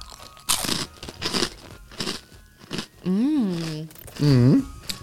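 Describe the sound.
Loud crunching bites of a speculoos cookie in several bursts, followed by hummed or voiced appreciative sounds while chewing.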